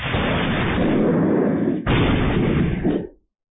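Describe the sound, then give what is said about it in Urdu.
Heavy, rumbling thunder rolls continuously for about three seconds, with a sharp crack midway that renews the roar before it fades out. No voices are heard. “بجلی کا چمکنا, بادلوں کا گرجنا اور آسمانی بجلی کا گرنا قدرت کی نشانیوں میں سے ایک نشانی ہے.”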